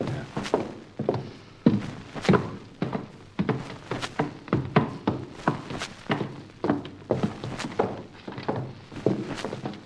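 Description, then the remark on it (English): A door thuds shut, followed by a steady run of heavy footsteps thumping, evenly paced for several seconds, with no talking. “Get inside and shut this door.”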